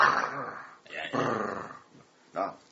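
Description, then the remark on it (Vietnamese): A person's voice imitates the heavy, rough breathing of a tired horse getting up after rolling in the grass, in three snorting, growly bursts, with the longest at the start and a shorter, sharp huff at the end. “Nó giống như con ngựa mà khi nó mệt, rồi nó chạy một hồi, cái là nó lăn trong cỏ, lăn trong cỏ xong nó đứng lên thì nó thở một cách rất là đặc biệt.”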